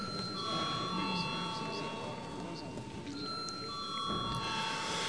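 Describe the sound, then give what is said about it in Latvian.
A steady electric parliament bell rings continuously and loudly for several seconds before a vote on a bill in its second reading, over a low murmur of voices and room noise. “Paldies, lūdzu zvanu.”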